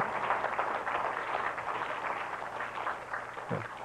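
Steady, dense applause from a crowd: many hands clapping at once in a continuous crackling wash that holds an even loudness for a few seconds, with no voices over it.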